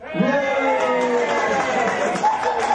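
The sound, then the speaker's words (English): A large audience gives a standing ovation as a phone call finally connects, cheering and whooping continuously, many voices blending into a loud, sustained roar of approval with no pauses across the whole stretch. “you just got a standing ovation.”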